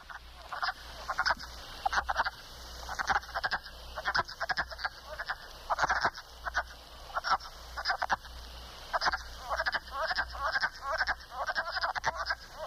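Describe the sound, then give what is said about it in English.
A chorus of wood frogs calling in spring, a steady run of short, raspy, duck-like clucks from several frogs overlapping, with no one talking. “And just to give you a heads up so you'll know who's who, this is the wood frog.”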